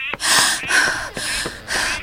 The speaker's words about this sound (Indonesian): Begitu sampai di depan rumah, ia memanggil ibunya dengan suara terengah-engah.